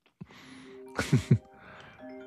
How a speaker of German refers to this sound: Also, dass dein Telefon während der Aufnahme klingelt, ist das eine.